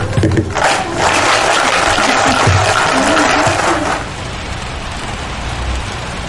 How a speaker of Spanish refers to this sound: La lluvia.